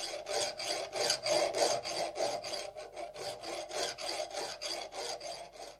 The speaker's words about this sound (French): Faisons partir la lime. Elle frotte toujours. C'est très désagréable, dit un autre.